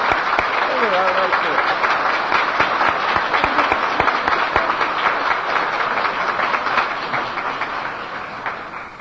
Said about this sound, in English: Let's give them a hand of applause, shall we? That's a long time.